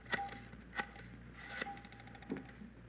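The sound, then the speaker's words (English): A telephone being dialed to place a long-distance call, heard as a few quiet, evenly spaced mechanical clicks and rattles over a faint steady hum, with no one speaking. “Can I use your phone, Miss Waters?”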